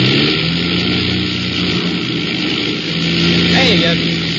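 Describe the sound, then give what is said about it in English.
Loud airplane engines drone continuously with a rough, uneven sputtering edge as they misfire, the noise swelling and dipping slightly throughout with no pause. The engines have been missing like this for ten minutes on a flight through storms in the dark. “And then I noticed the sound of the engines.”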